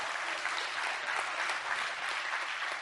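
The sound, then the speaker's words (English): Steady applause from an audience, a dense wash of many hands clapping at once, holding a fairly even level throughout with no voices standing out. “I think that deserves a little clap right there.”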